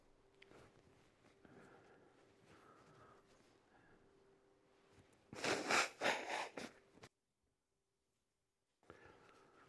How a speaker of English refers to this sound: Forgive me for blowing my nose through the sound system.